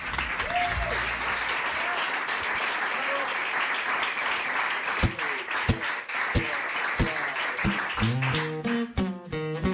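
A live audience applauds steadily, a dense wash of clapping that fills the room, with a few louder individual claps standing out near the end as the applause continues.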